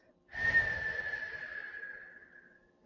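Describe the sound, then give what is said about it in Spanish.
A single breath pushed out through pursed lips, airy and hissing with a thin whistling tone running through it, starting strong and slowly fading away over a couple of seconds; the exhale of Shitali, a cooling breathing exercise, after breathing in through the nose. “Inhala por la nariz y exhala con los labios abiertos o entreabiertos como silbaras.”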